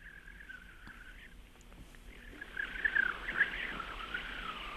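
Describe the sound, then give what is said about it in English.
A thin, steady bird-like whistle, then a brighter run of warbling chirps, a woman's small whistle mimicking birdsong, moderately loud over a soft outdoor hiss, with no talking. “And sometimes they call me the bird lady, because sometimes I have a little whistle that I ask them, do you like birds?”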